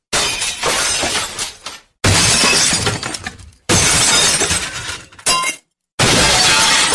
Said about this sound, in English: Sounded like somebody smashed something. Oh, look, it's George. He smashed in through the window.